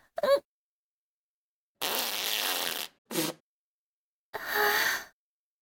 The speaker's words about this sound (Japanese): 出ちゃった。どうしよう。すっごいおっきな音しちゃったし。てか、人前でおならとか初めてだよ。